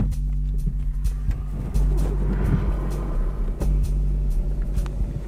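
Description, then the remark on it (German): A car drives steadily toward the Temelín nuclear power plant, its engine and tyre rumble heavy in the low end, with intermittent clicks and knocks over the continuous drone. “Wagen nähert sich dem Kernkraftwerk.”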